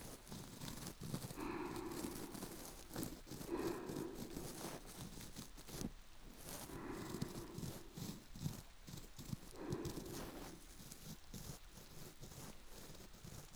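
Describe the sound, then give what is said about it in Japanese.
Steady rain hiss runs throughout, overlaid by soft, repeated scratching and rubbing strokes in slow bursts every couple of seconds, like ear cleaning. No one speaks. “雨の音と耳かきの気持ちいい感覚に意識を向けて、ゆっくり気持ちよくなって、眠る時のようにリラックスして、そうすると、スーって気持ちいいが全身を包み込んでくれるから。”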